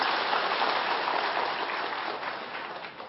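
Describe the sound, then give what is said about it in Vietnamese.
An audience at a talk on Buddhist scripture claps steadily at the speaker's request, a dense wash of many hands with no distinct individual claps, holding fairly even before tapering slightly toward the end. “Đúng vậy, hoan nghênh câu đó, một tràng pháo tay giùm tôi.”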